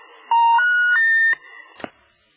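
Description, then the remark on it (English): A telephone line tone from a phone left unhung: three steady electronic beeps stepping upward in pitch, each about a third of a second, followed by a couple of faint clicks and thumps. “Forgot to hang up the phone.”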